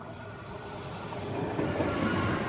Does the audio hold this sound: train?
yes